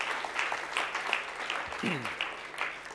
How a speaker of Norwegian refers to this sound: Det fortjener en skikkelig applaus. Ok, ja, det bra.